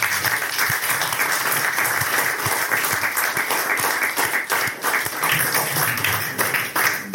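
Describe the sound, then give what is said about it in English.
A sustained round of applause from a crowd, dense overlapping claps filling the whole stretch at a steady, fairly loud level without pauses, given at a gathering marking 50 years of a talking news service. “And I just think we really should have a huge round of applause, because without”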